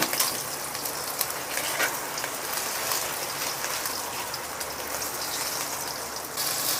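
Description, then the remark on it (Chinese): A thick homemade burger patty, flipped and pressed, sizzles steadily in a frying pan over low heat, a dense, hissing crackle with sharp little pops scattered throughout and no one speaking. “把它煎成这样恰恰恰的，好了，关火了。”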